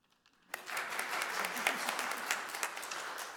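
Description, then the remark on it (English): An audience bursts into applause after a brief quiet moment, a dense crackle of many hands clapping that stays steady and fairly loud, with a few sharper claps standing out, applauding a preacher after he sings a song parody about politics. “It's funny, I have to do something other than preach to get applause.”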